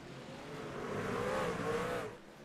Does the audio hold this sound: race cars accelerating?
yes